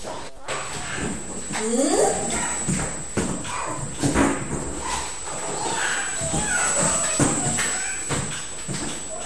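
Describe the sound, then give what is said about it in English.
A dog makes short barks and whiny yelps while a child plays with it, amid busy, cluttered surroundings with scattered voices and knocking, thumping movement throughout. “What's the dog saying to you?”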